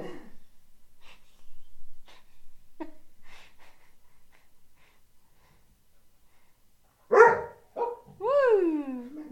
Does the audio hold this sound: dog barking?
yes